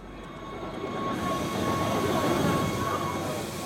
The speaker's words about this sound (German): Immer zur halben Stunde fährt im kleinen Bahnhof von Wengen die Zahnradbahn ein.